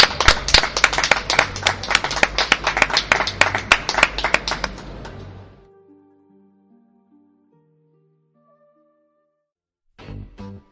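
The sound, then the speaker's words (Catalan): A crowd applauds for about five seconds, dense overlapping claps fading out, followed by a few quiet tonal notes and a short burst of noise at the end. The audience is at a manga convention in Barcelona. “Un aplaudiment, sisplau, pel nostre públic que està aquí, al Manga Barcelona.”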